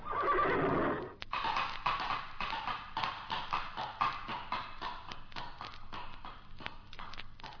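A horse gives a loud, shrill whinny lasting about a second, then hooves clop along in a steady galloping rhythm that continues until the end, with no voices.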